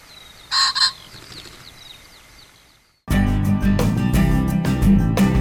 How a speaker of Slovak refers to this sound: Prechádzka poľným revírom je vždy príjemnejšia, keď počujete kokrhanie bažanta alebo ho vidíte na vlastné oči.